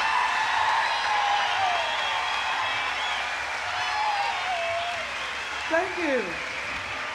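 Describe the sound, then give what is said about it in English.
A crowd at the 1991 Jazz Fest cheers and applauds in a dense, steady roar for several seconds as New Orleans' First Lady of Jazz is brought to the stage, with scattered whoops and a sliding shout rising above the noise near the end. “And with a big 1991 Jazz Fest cheer, bring to the stage New Orleans' First Lady of Jazz,”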